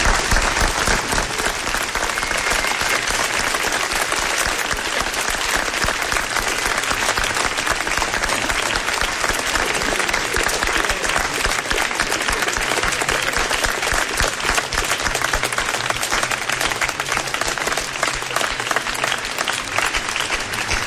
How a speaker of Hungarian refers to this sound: Nagy taps jár nektek is!